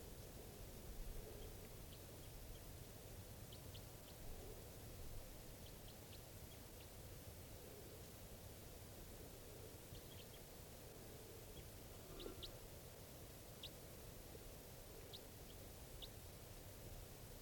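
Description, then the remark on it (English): Short, high-pitched chirps from a bird in a flock, scattered irregularly over steady wind-like hiss. The calls are brief and fairly faint, and no one speaks. “And there's one more bird in the flock calling here.”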